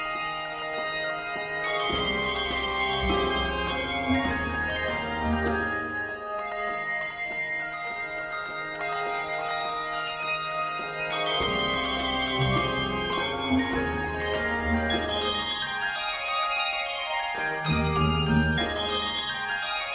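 Church bells ring continuously in rich, overlapping tones, striking fresh chords every few seconds while earlier notes hum and fade beneath, loud with no voices.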